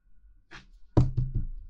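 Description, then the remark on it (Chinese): Three quick, firm knocks on a door, following a soft rustle, with no one speaking; an older sister knocking on her younger brother's door to get him to open it. “喂，喂，弟弟，开门吗？弟弟，开门吗？”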